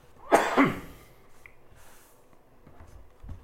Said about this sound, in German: Ich muss gleich husten.